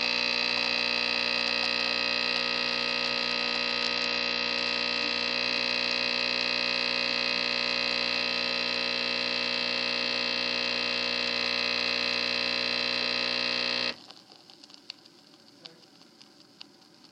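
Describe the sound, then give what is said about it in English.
A loud, steady machine hum with layered droning tones runs for about fourteen seconds while a foamy drink pours from the machine into a cup beneath it, then the motor cuts off abruptly, leaving faint drips of the last liquid and quiet. “I don't know if you can hear over the humming, but it actually is starting to pour into the cup, too.”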